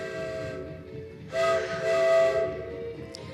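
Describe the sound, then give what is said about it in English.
A train gathers speed as it leaves a station, rumbling along steadily while a steam whistle sounds a sustained, layered tone that swells louder midway through, with no voices present. “I willed the train to gather speed. We shot clear of the station.”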